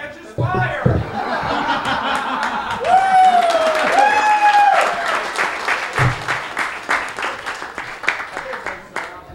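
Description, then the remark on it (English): An audience claps steadily for several seconds, a dense patter of many hands, with laughter, voices and a sustained high cheer rising over it partway through before the applause thins out. “No, we'll have people clapping.”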